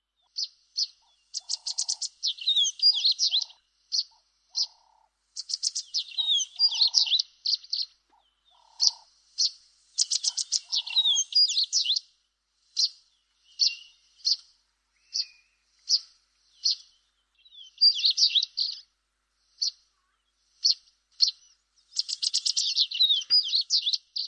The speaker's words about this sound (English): Today's bird call is the violet-eared waxbill.